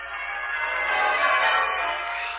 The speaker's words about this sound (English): A bright, shining morning, and the bells of the town pealing out there beyond his window.